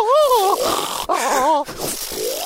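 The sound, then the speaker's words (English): Someone loudly imitates a woman's exaggerated, theatrical hammy snore in her sleep: two long, wavering, groaning breaths, followed by a rougher snorting tail. “So she's like a hammy snorer. Right. Her snore could get really massive, like pants.”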